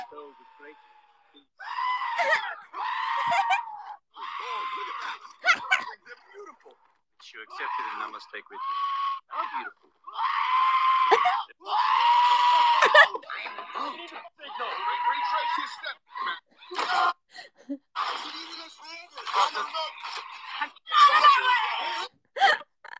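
A giant goat bleats and screams over and over, loud, with harsh, wavering cries coming in quick bursts separated by short pauses.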